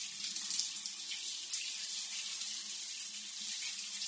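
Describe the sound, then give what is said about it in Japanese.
Shower water sprays steadily in a continuous hiss, fairly loud, rinsing a person's body from the back and then the front, with a faint low murmur underneath and no voices over it. “後ろから前の方もシャワーをかけますね。”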